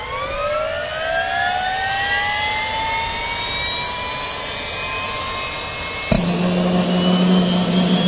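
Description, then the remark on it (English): A turbine engine whines as it spools up, its pitch climbing steadily for several seconds before shifting abruptly into a loud, steady low drone as the helicopter engine settles into running. “Start up the chopper!”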